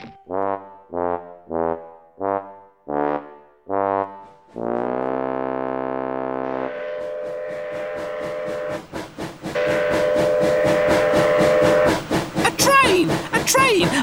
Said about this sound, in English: A train!